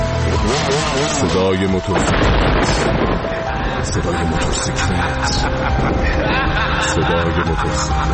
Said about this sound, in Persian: توی همون شب پاییزی صدای موتورسیکلت دور و نزدیک می‌شد و دختر می‌دید که از درون داره می‌سوزه.